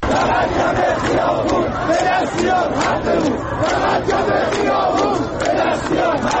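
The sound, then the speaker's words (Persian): A large crowd of protesters in Shahrekord, Iran, chanting and shouting together in front of the Chaharmahal and Bakhtiari governorate building, protesting over water, a loud, dense wall of many voices with rhythmic surges of rising and falling pitch running throughout. “صدای اعتراض شماری از مردم شهر کرد.”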